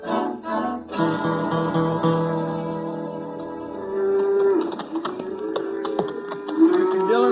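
A herd of cattle moos in long, overlapping bellows, several animals lowing at once, with scattered clattering and shuffling in the background and no one speaking.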